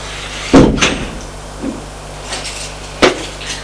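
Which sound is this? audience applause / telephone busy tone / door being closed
door being closed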